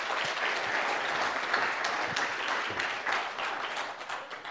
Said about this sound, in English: Awesome. Thanks, guys. You give a round of applause.